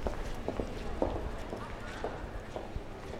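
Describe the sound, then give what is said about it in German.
Hurried footsteps of someone carrying a seemingly heavy travel bag climb stairs with long strides at a steady pace, roughly two firm steps per second, over a continuous murmur of background bustle in a hall. “Eine scheinbar schwere Reisetasche erklimmt mit großen Schritten die Treppe.”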